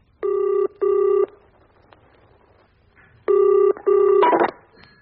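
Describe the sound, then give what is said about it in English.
A telephone on a tape recording of a phone call rings with two double-pulse rings separated by a pause, loud, the second ring cut short by a brief clattering burst like a handset being picked up. “It's a tape recording of a phone call.”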